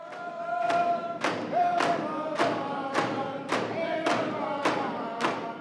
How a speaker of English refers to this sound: As the Heritage Dancers waved fans to the fierce pounding of drums, the crowd couldn't help but gather to the front row to watch, sometimes joining in on one of the invitational dances.